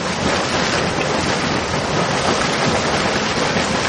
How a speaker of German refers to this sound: Wieder woanders kocht das Wasser in einem Erdloch.